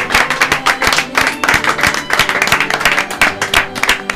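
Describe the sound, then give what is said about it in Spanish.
An audience at a live heavy metal night in Cuenca applauds loudly and steadily, many hands clapping in a dense, crackling wash that holds its level for about four seconds with no voices on top. “…, un aplauso.”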